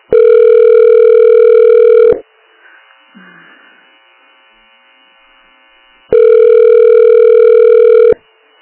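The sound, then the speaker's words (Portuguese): A loud, steady telephone line tone sounds for about two seconds, falls silent with faint background noise, then repeats for another two seconds, the pattern of a phone line while waiting on hold after calling a psychosocial support centre. “Você ligou para Centro de Apoio Psicossocial. Aguarde para ser atendido.”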